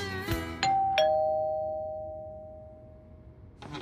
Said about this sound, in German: Alles begann, als es an der Tür läutete.